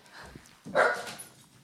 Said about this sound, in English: Good job, dogs. You scared them away.